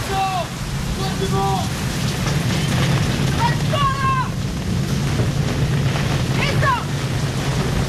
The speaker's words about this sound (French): Des paquets de mer s'écrasent sur le pont. Il est difficile de communiquer. Le vent emporte les cris des marins perchés dans les mâts.